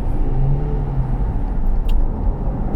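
A car engine rumbles loudly and steadily from inside the vehicle, with a low droning tone as the car picks up speed; no one speaks.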